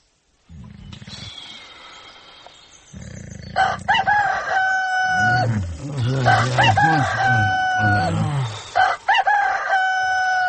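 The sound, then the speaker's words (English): A rooster-crow alarm blares out in loud, drawn-out harmonic calls, repeating several times over a low, buzzing rumble that starts just before it. “Turn off that fizzing alarm.”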